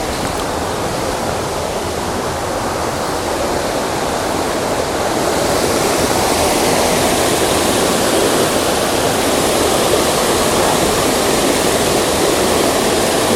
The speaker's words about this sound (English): But first, I'm going to go and actually have a look at the waterfall itself. It was not far along the trail. I found it really quickly. And it's huge. And beautiful.